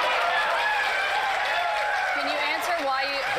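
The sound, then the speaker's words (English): A large crowd cheers and applauds loudly and continuously, a dense wall of shouting voices and clapping with no pause, sounding close and filling the whole moment. “And of course, the sycophant crowd cheers.”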